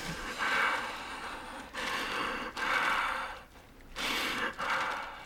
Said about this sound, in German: Die holt tief Luft.